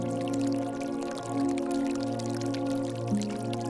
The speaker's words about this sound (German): Doch zunächst gehst du zu einem Brunnen mit klarem, sprudelndem Wasser.